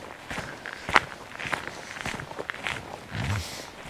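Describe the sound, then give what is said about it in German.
Steady footsteps of a person walking at night at an even pace, each step a soft crunching thud about half a second apart, with a faint hiss of background noise and no voices. “Ich auch entgegengesetzt laufe.”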